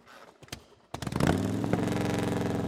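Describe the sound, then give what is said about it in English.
A motorcycle engine is started: it cranks with a few clicks, then roars to life and revs up loudly before settling into a steady rumbling idle. “Ignoring the throbbing hurt, Virat climbed on the motorcycle and started it.”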